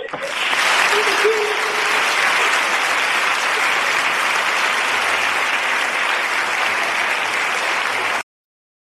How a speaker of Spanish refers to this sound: la veritat és que avui que en nom de tots sentisques l'aplaudiment que te donem tots i l'enhorabona per aquesta responsabilitat que tens en nom de la ciutat de València.